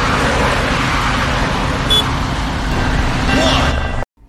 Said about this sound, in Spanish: Tráfico intenso, sobre los 80 decibelios.